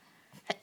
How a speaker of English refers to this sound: Oh, fuck. Gesundheit. Thank you. Someone's thinking about me. Anime taught me that.